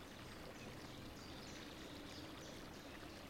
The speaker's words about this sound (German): Links von dir plätschert träge ein kleiner Fluss. Und rechts von dir auch. 2 kleine Flüsse, die hier, genau hier, wo du liegst, zusammentreffen.